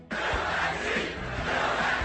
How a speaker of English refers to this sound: A crowd of supporters in Fayetteville, North Carolina is chanting, "Fill that seat."